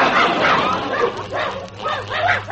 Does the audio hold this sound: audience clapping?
no